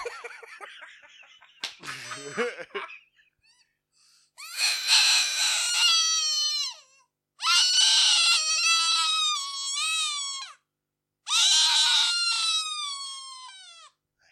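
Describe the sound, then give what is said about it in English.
A predator call imitating a dying white-tailed rabbit: three loud, shrill, wavering squeals, each about two to three seconds long with short pauses between, preceded by a brief rough burst of noise. “Predator Call. It's a dying white-tailed rabbit.”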